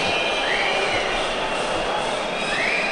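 A steady crowd roar fills the football stadium, with shrill whistles from spectators rising above it in a couple of brief upward sweeps as they whistle at time-wasting in the 89th minute.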